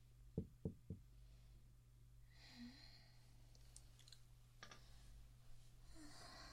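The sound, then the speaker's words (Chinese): Three quick knocks rap on a door near the start, followed by quiet rustling and a low steady hum, with no voices. “怎么不开门啊？”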